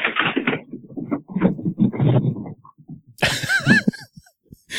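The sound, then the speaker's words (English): An agitated dog, freaking out after coming back inside, makes a run of rough, snorting huffs, then a burst of scuffling noise carrying a few high, wavering whines before it trails off. “It's my dog freaking out from coming back inside.”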